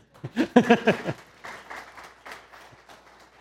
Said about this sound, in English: And yes, I would clap to that.